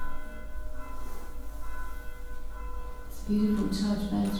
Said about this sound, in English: Ez nagyon szép, ez a templom harag. We can hear the bells glorifying the presence of the Lord. Hallhatjuk, amint a harang az Úrnak a jelenlétét dicsőíti. And they're calling the congregation to come and worship Him.